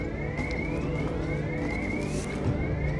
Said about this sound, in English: Does it have to be so loud? The builders wanted to impart a sense of urgency in the alarm. Apparently, they conducted several tests and determined that this sound in particular created an immediate want for it to cease.